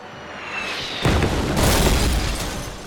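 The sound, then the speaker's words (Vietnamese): Bombs explode as Japanese aircraft dive on US Navy ships in the attack on Pearl Harbor, 7 December 1941: a sudden deep boom, then a second heavy blast that rumbles on loudly, with a faint whistling whine before the first impact. “Ngày 7 tháng 12 năm 1941, quân Nhật ném bom Trân Châu Cảng.”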